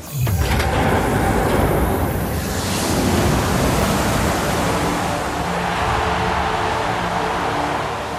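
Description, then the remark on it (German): A loud, steady roar of water gushing out in a massive torrent as a ruler opens the floodgates in the film Mad Max: Fury Road, continuous for several seconds, with no voices over it. “Von Waterworld über Mad Max Fury Road, wo die Leute sehnsüchtig darauf warten, bis der böse Herrscher die Wasserschleusen aufmacht.”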